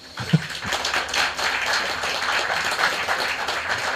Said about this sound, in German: Und, können wir einen Applaus haben?